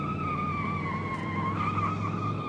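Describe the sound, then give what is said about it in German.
Car tires screech continuously as a car races around the last curve toward a zoo, a loud sustained squeal with a steady high pitch riding over a rumbling engine, without any voices. “Mit quietschenden Reifen rast das Auto um die letzte Kurve hin zum Zoo.”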